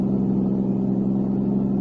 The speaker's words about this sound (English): There's a car. It stopped.